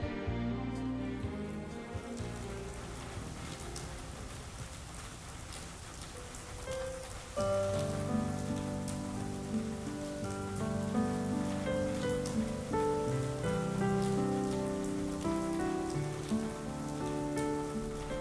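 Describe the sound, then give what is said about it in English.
Steady rain patters on a surface in a continuous, even hiss while a melodic music track plays over it, growing fuller partway through. No one speaks. “It's still raining.”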